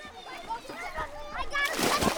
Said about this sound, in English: Dozens of kids splash in a pond tucked among trees. It's one of three ponds at Hale Education, which runs a summer camp in Westwood with miles of trails to explore.